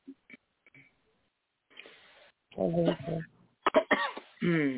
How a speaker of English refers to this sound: I hear you coughing. God bless you. Or was that a sneeze?